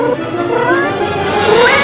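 A cat yowls in drawn-out, wavering cries that rise and bend in pitch, fairly loud, over a steady background rumble, with no talking.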